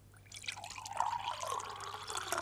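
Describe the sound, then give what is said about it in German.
Water drips and trickles steadily for a couple of seconds, fairly quiet, with a faint bubbling, rising tone and no voices. “Das Wasser? Das Wasser.”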